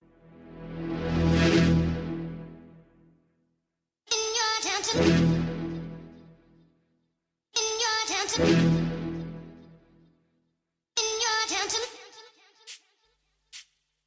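A grime rap song plays, opening with four loud, rich synth swells, each lasting a few seconds with brief gaps between. No rapping or voices are heard yet.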